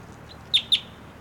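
A wild bird perched on a support rope for a net chirps twice in quick succession, two sharp, high-pitched notes over a quiet background hiss, with a fainter peep just before them.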